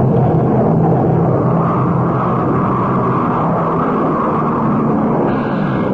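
airplane flying away

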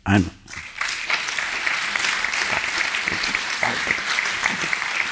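audience applause

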